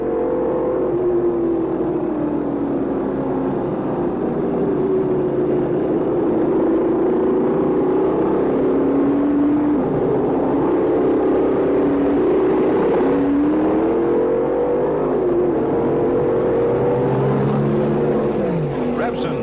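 Racing car engines roar steadily for the whole stretch on a race track, their high whining tones rising and falling as several cars sweep past at speed, lapping slower cars, with Peter Revson driving toward the finish line; loud.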